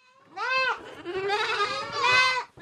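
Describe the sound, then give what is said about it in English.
Eight-week-old goat kids bleat loudly in a milking barn on an Amish farm, several overlapping wavering cries in quick succession, with no talking. “These 8-week-old goat kids have a lot to say during my tour of Amish farmer Mervyn Graber's milking barn”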